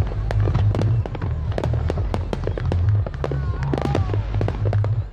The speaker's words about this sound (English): Millions of Americans are celebrating those fireworks over Austin.